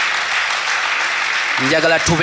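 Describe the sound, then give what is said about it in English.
A crowd in Uganda claps steadily in dense, sustained applause to welcome visitors, and near the end a man's voice starts speaking over the continuing clapping. “Now I want us to clap our hands and appreciate them.”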